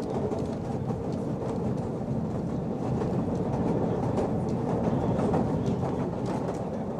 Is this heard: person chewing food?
no